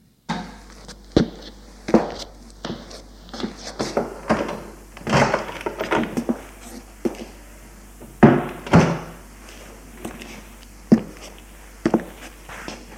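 A glass-paned door to a school headmaster's office is handled, opening and shutting with a series of irregular wooden knocks, clunks and thuds spread over several seconds, some sharp and loud, others softer, with no voices.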